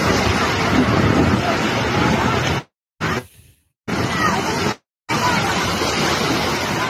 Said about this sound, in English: Sounds windy.